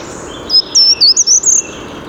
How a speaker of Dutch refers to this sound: Hier, dit is de zang van de boomkuiper.